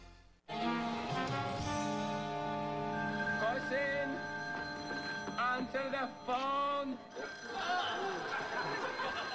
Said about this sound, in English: I'm trying to answer the phone. I can't concentrate with all this ringing.